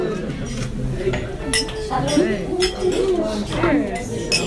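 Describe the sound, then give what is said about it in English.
Glasses clink together in a toast of "salud" to a great year, a handful of bright, sharp taps scattered irregularly over a steady murmur of several people talking. “Well, right now I just want to say salud and toast.”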